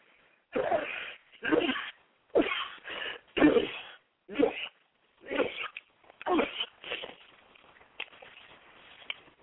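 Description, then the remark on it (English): A run of odd, funny-sounding sneezes, roughly eight short sharp bursts in quick succession, fairly loud, with no other talking. “And yes, I sneeze funny.”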